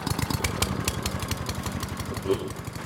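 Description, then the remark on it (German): A riding lawn mower's engine idles steadily, a rapid low chugging pulse with a rough mechanical rattle, running continuously with no voices. “Diesen fahrbaren Rasenmäher. Fährt nicht nur im Garten, sondern überall.”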